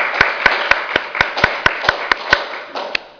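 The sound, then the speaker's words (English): Audience applause for the presenters: a steady wash of many hands clapping, with one set of sharp, evenly spaced claps standing out in a quick, regular rhythm throughout. No one speaks. “Let's give them a big sign of applause, all the presenters.”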